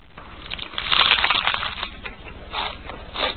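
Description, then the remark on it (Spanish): Crisp, crackly crunching of a potato chip, loudest in a sustained burst early on, followed by two shorter crunches with brief gaps between. No voices. “Esto es el crujido de una patata frita.”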